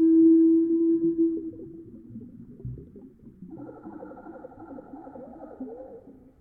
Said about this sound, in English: It's just the call of a humble blackbird, but played back very slowly, and with some water sounds added for effect.